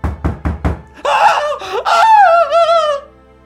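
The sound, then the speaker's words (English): Four quick, evenly spaced knocks on a door, then a burst of high-pitched shrieking, squealing voices that wavers and trails off. “And then, 10 minutes later, there's a knock at the door.”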